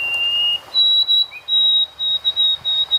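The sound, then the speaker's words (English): A Canadian white-throated sparrow sings its older-style song, sung since the 1960s: a clear, pure whistled opening note, then a higher whistle held and broken into a series of repeated notes, with no talking. “There's a new songbird spreading like wildfire among the Canadian white-throat sparrows.”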